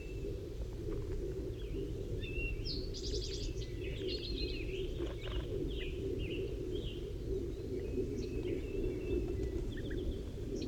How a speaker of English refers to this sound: And one of the wild birds is coming in now. I just saw it land in the pine tree. 5-3 is calling to it.